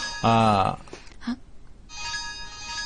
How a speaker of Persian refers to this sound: چرا گوشی رو بر نمی داری؟